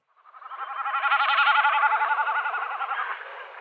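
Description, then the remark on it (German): A common snipe's drumming display flight, heard outdoors: a rapid, wavering, goat-like bleat that swells in and fades out over about three seconds, its fast tremolo clear and unbroken, with no voices. “Ist ein schöner Abschluss für das Hauptthema, die meckernde Himmelsziege. Ich spiele es nochmal ein, wie es sich anhört draußen.”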